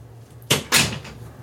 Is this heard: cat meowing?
no